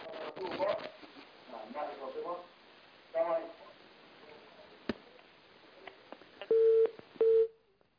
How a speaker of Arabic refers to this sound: انقطع الاتصال. المشكلة يفتحون التلفاز يسمعون وبعدين يتكلمون، هذه مشكلة.